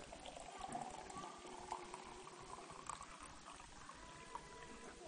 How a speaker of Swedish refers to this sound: Fyll dem med vatten, sa han. Ja, okej. Så de fyllde de här med vatten. Sen är det vanligt vatten va? Så fyllde de upp en massa vatten så här.